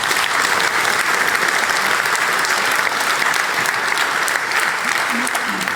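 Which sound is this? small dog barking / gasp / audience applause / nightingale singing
audience applause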